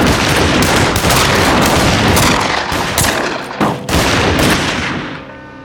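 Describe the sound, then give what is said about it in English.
A loud, sustained burst of gunfire, shots cracking in rapid succession with barely a pause, then a brief lull and more firing before it trails off. “He walked in shooting.”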